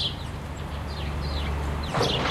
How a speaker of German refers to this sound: Die Müllinenstrasse ist auf der einen Seite recht laut, aber hinten raus konnte ich die Spatzen hier hören.